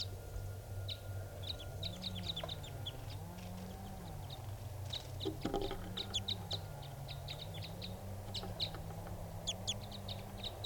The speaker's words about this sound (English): Wild bird. Mostly the male calling here. Females are responding.